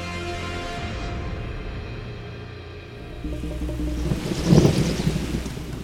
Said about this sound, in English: A monsoon storm on the coast of an island in the Indian Ocean. But this is not a normal tropical island. This is Madagascar.